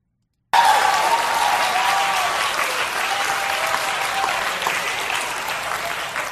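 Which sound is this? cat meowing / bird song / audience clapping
audience clapping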